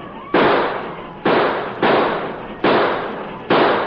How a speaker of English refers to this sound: Lower your sights. You're shooting over their head. Here they come. Feed them bullets.